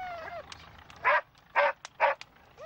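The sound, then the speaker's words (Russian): A dog gives three sharp, evenly spaced barks, fairly loud, with brief high whines before and after them. “Brave dog, that.”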